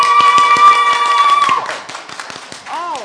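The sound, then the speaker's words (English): Scattered audience clapping in answer to whether they were able to use the code successfully, a few uneven claps rather than full applause, over a sustained ringing tone that fades halfway through; a brief voice rises near the end. “Would you clap if you were able to use the code successfully?”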